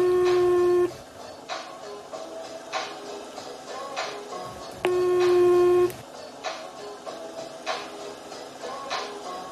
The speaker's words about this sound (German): Er telefoniert schon, okay. Ein bisschen unhöflich.